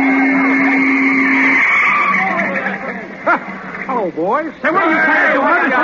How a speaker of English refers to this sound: What the? Hey, get that car out of here, will you? Get off the field, you bonehead.